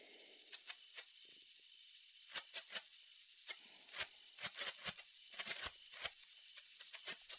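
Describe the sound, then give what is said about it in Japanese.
Crackling sparks snap and pop in quick, irregular bursts over a steady fizzing hiss, fairly soft, with no voices. “綺麗ですね。パチパチって。”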